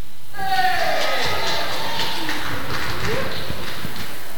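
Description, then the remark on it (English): One side of an audience erupts in loud, sustained cheering and whooping for a team, practising a cheer on request: a dense wash of many voices with a few rising shouts, holding steady for several seconds. “So let's have, from this side, a cheer for this team.”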